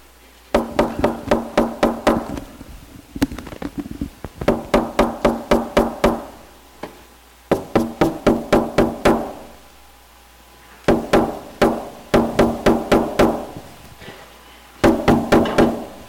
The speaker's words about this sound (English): Have you ever had your knocking ignored? Have you ever gone to a door and knocked and you know somebody's in there and they don't listen? They just ignore you. They don't open the door.